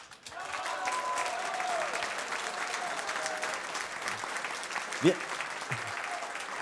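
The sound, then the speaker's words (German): Sustained audience applause, a dense crackle of many hands clapping at steady loudness for several seconds, with a brief vocal exclamation rising over it near the end. “Und ich sage mal einen Applaus in Fluch.”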